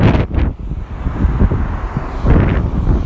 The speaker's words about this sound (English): Very noisy car. Well, perhaps I am getting the tail end of the school pickup here.